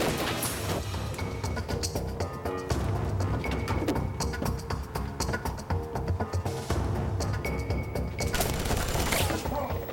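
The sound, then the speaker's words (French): A loud, sustained barrage of gunshots in a stairwell during a SWAT unit's assault on an apartment, sharp cracks firing in rapid, irregular bursts with dense echoes that carry on for the full ten seconds without pause. “Il y a alors eu des coups de feu dans la cage d'escalier.”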